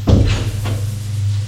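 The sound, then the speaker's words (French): A man opens the door of a house with a short wooden knock and creak near the start, followed by a second softer clunk, over a steady low hum. “Il ouvre la porte.”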